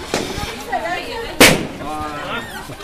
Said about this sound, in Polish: Słychać wybuchające balony, niektóre. Mnóstwo pięknych, kolorowych balonów.